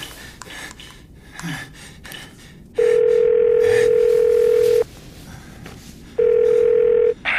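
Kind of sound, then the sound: signal or alarm, telephone ringing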